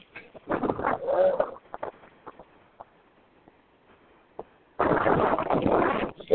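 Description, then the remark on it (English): Gusty wind buffets a microphone outdoors at a racetrack as cars line up on the grid, with two loud rushing bursts separated by a quieter stretch of faint scattered clicks and rustles. “And that's right, it's a little windy out here.”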